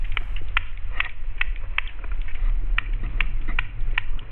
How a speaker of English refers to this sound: And it turns out sturgeon make other sounds, too. They rap.